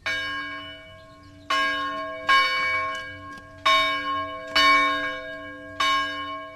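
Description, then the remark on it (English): A church bell at a restored Shaker village tolls five times at a steady, unhurried pace, each loud strike ringing out with rich overtones and a long hum that lingers between strokes. No voices. “The bell may have tolled for the builders of this Shaker community, and most of their original buildings may have disappeared.”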